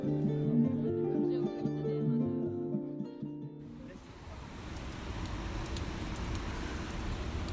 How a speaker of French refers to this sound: D'ailleurs, quand il pleut comme ça, ils ne viennent pas.